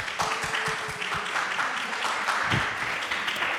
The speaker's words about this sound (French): On peut l'applaudir.